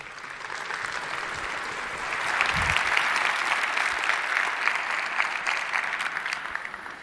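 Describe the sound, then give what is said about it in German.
Steady applause from an audience welcoming a speaker to give a talk, a dense crackle of many hands clapping that swells slightly after a couple of seconds and holds fairly loud throughout, with no talking over it. “Einen ganz herzlichen Applaus bitte”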